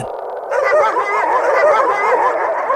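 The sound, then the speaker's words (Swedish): A crowd of dogs barks and yips all at once while chasing a rocket, a busy overlapping chorus that starts abruptly and keeps going steadily at fairly loud volume, with no one talking. “Hundomjordingarna jagar raketen och de lämnar planeten.”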